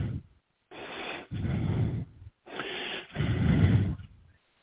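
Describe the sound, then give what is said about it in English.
Two slow, deep breaths drawn in and pushed out, each a rushing, airy swell with brief pauses between, and no talking. “Breathing is a good thing.”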